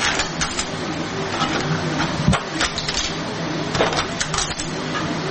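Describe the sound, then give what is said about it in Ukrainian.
A 3D printer used to print small non-standard parts such as mounts and munition components runs, its stepper motors whining in repeating rising and falling sweeps over a steady mechanical whir, with occasional small clicks and ticks and no voices. “Все маленьке, кріплення, щось на осколки, на уламки, на боєприпаси, на скиди, і друкується на принтерах.”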